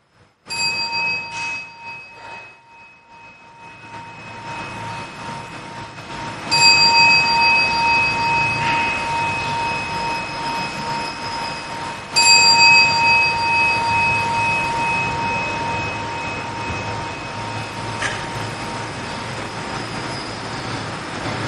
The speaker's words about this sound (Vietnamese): Chúng ta lắng nghe ba tiếng chuông trước khi tập hỏi sáng hôm nay.